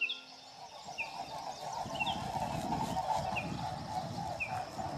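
Birds call in short, high chirps repeated every second or so, fairly clear against a steady bed of low rumbling background noise, with no one talking.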